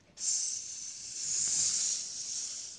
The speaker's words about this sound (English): Hui Mang rushed down the hole and into the tunnel. At that very moment, Kyom Sam heard a hissing sound behind her.